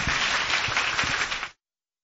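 A crowd breaks into steady applause, a dense wash of many hands clapping at close range for about a second and a half before it cuts off abruptly.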